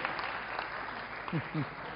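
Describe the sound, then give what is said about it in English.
Steady applause from an audience after a speaker recites a passage about Jesus, a dense crackle of many hands clapping at an even, moderate level, with a couple of brief low voiced sounds near the end. “Don't clap too much, otherwise I will inflict you again.”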